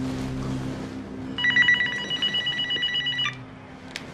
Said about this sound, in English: answers the phone.